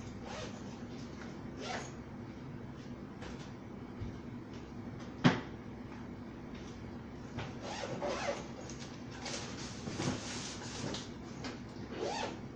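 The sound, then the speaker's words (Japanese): Rustling and shuffling as a recorder and laptop, along with a phone, wallet and keys, are packed into a bag, with a zipper-like rasp, soft bumps and one sharp click partway through; no voices. “レコーダー入れたパソコン入れた。携帯財布鍵持った。”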